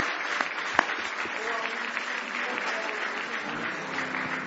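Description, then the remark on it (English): An audience at a church service claps their hands in praise of the Lord, a dense, sustained wash of many hands clapping at once, with a murmur of voices mixed into the steady applause. “Now give him one more hand clap of praise tonight.”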